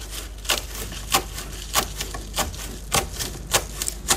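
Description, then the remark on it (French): Steady knife chops against a wooden board as kale leaves are cut into strips, about ten crisp strikes at an even pace with brief pauses, fairly loud with no talking over them. “Et puis les feuilles, on en fait des lanières.”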